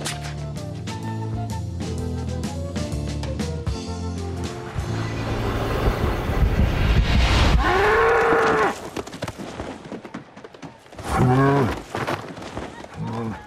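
A bull at a bullfight lets out two loud, drawn-out lows, one long and swelling, then a shorter one a few seconds later, after a stretch of busy music and background noise.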